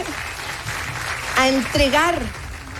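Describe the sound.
A crowd applauds steadily for a few seconds, a dense wash of clapping at moderate volume, with a single voice briefly calling out over it midway.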